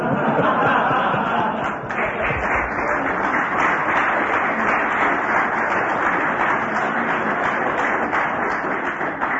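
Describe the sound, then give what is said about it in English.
Sustained audience applause, a dense steady wash of many hands clapping at a constant loud level for the full stretch, with faint crowd murmur mixed in and no clear speech. “Do you hear that applause?”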